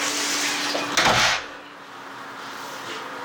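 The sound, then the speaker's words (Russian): The second drawer slides open once with a brief scraping rush, to take out a cloth printed with a New Year scene, set against a steady background hiss that stays after the movement stops. “Второй ящик, возьми тряпочку, где нарисован новогодний сюжет.”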